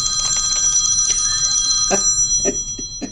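A cell phone rings with a rapid, high-pitched electronic trill that repeats steadily for about two seconds, then cuts off, followed by a few soft clicks and knocks.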